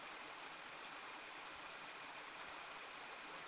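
A steady, continuous rush of stream water flows without pause, a dense hiss of moving water filling the whole moment with no voices present.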